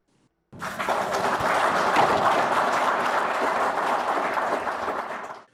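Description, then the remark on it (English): Zimbabwean officials in Harare, including Wildlife and Environment Minister Opambu Chinguri, clapping after receiving anti-poaching equipment from the Sino-Zim Wildlife Foundation Association: steady, dense applause that starts abruptly, holds at an even level for about five seconds, then fades out at the end. “Those are Zimbabwean officials, including Wildlife and Environment Minister Opambu Chinguri, clapping after they received anti-poaching equipment”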